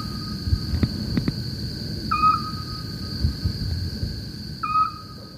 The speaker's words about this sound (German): Sie haben eben den Gesang der Zwergeule gehört.